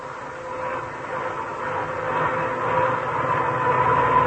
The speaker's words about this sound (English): Now, when you hear a humming like that, you know that car has worn-out gears. And probably they're worn because the owner forgot to change to wetter gear lubricants when cold weather came.